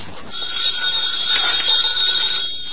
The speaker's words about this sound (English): Now the phone. Quiet, will you? I'm going to answer you.